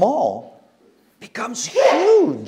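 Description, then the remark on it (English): A single short, sharp sneeze from somewhere in the audience bursts out during a brief pause in a speaker's talk, and the speaking resumes right after. “Bless you.”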